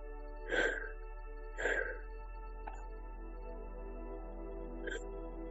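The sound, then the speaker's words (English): Two forceful breaths sound in quick succession during a breathing exercise, followed by a softer breath or two over a steady low hum. No one speaks. “So stay with the breath. Stay with the breathing pattern the entire exercise.”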